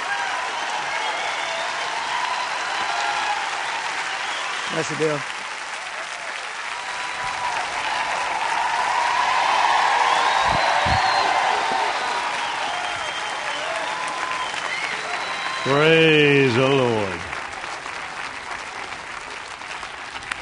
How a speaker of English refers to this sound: And we're going to welcome Bill Winston to the platform. Praise God. Would you give Brother Bill Winston a good round of applause as he comes?